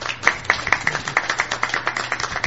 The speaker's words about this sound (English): And audience, if you applaud for these people, they did a great job. Thank you for coming.